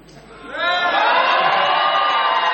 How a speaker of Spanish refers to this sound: Hoy es viernes y suelen concurrir personas propensas al grito. Sí. De manera que si quieren gritar deben hacerlo ahora.